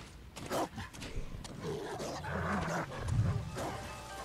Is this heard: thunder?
no